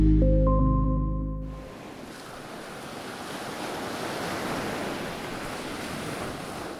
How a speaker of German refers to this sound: Sanft laufen die Wellen an den pulverig-weißen Sandstrand. Das Wasser leuchtet hell türkis. Wedge Island im westlichen Australien ist ein Inselparadies.